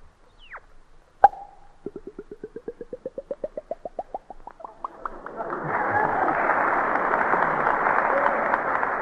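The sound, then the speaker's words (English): A voice imitates a bottle being opened: a sharp pop, then a run of quick glugs rising steadily in pitch like liquid filling, ending in a sustained fizzing hiss. Fairly loud. “And now, if you're thirsty, I'll open up a bottle.”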